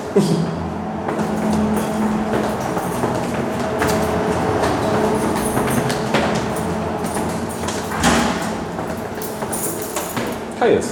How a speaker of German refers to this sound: Im ersten Stock hört man das Rauschen der Kältemaschine.